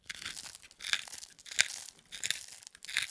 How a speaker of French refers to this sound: J'ajoute un peu de poivre du moulin.